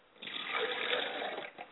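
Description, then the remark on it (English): Water is poured onto the ground as a libation to ancestors, pouring steadily for about a second and a half, a broad hissing splash that swells, holds, then tapers off with a brief final spatter. No voices. “And we let the water hit the ground because we know the ground is fertile, and where the water falls, up will spring the word of God.”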